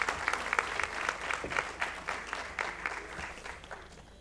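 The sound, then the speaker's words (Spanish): Sustained audience applause for screenwriter and filmmaker Juan Carlos Maneglia Otazú, a dense wash of many hands clapping at steady volume throughout, with no voices rising above it. “Aplauso, por favor, para el señor Juan Carlos Maneglia Otazú.”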